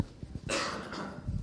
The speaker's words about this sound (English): All right, I had a good cough there, so try to wait for it to go away, and it didn't.